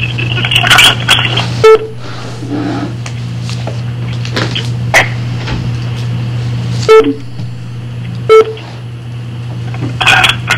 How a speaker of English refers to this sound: We'll give folks a minute. We've got all the St. John's folks here. Hopefully we'll hear a bunch of beeps. Oh, yeah, I'm hitting beeps.